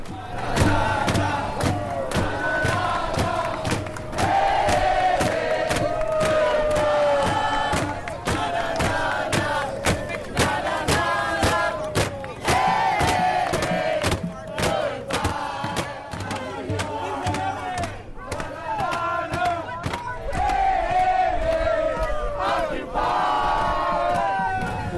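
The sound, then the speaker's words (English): A large crowd of protesters at City Hall chants loudly and steadily for the whole stretch, on a Sunday night into Monday morning, many voices rising and falling together in a repeating rhythmic pattern, punctuated by sharp, regular percussive hits. “Here is a little tidbit of, or a little taste of what Sunday night through Monday morning was like at City Hall.”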